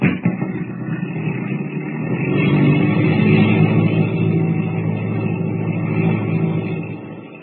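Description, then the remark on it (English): A radio-controlled plane's small engine drones steadily, swelling in loudness after a couple of seconds and then holding a buzzing, sustained whine with a low rumbling undertone. No voices are heard. “What will Kent and Jimmy find when the radio-controlled plane comes to rest near the boat?”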